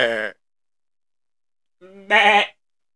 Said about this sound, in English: You goddamn goats out here? Oh, we haven't heard the goats in a while. There's a lot of them.